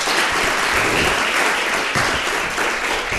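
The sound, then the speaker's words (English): Sustained audience applause for a panel at an event, a dense steady wash of many hands clapping at an even loudness for the full few seconds, with no voices standing out. “Can we give this panel another round of applause commensurate with their contribution here?”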